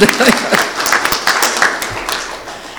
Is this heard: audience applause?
yes